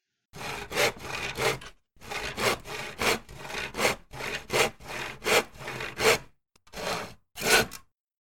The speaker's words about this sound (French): J'ai scié du bois.